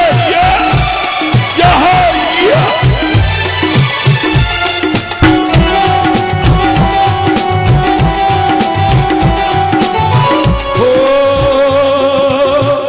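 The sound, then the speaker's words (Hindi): A large audience claps rhythmically and cheers along with loud, steady devotional music, the crowd noise thick and continuous throughout. “ये तालियां बजाइए पश्चिम में”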